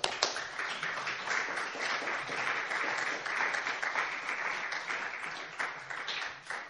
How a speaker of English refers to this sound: Therefore, while you're giving me one last round of applause, I'll ask them to come up and pick this up.